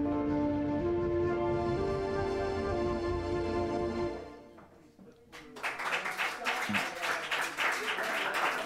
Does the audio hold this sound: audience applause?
yes